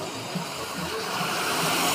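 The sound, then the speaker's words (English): Loud, steady roar of street traffic, a broad wash of engine and tire noise that swells slightly as cars pass, with no voices, heard while crossing the street. “You can hear the cars, I know. They're pretty loud.”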